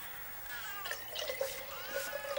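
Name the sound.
water pouring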